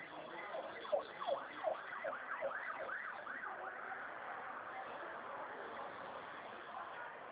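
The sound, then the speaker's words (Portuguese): An ambulance siren passes, its rapid rising-and-falling yelp clearest for the first few seconds before fading into a muffled hum of background noise. “Acabou de passar uma ambulância aqui também.”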